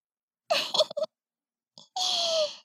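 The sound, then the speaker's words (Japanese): Someone crying, with a few short, broken whimpering sobs followed by a longer, drawn-out wail that slowly drops in pitch, fairly soft and with no speech. “泣いてるの？涙浮かべて、どうしたの？”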